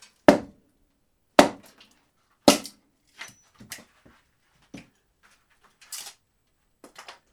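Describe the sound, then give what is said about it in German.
Firewood being chopped into small pieces at a mountain site about 2884 metres above sea level: three loud, sharp axe strikes about a second apart, followed by lighter knocks and clatter of wood pieces falling, with no talking. “Unser Feuer hat grossen Appetit, darum müssen wir jeden Tag neues Holz sägen und in kleine Schichtchen hacken.”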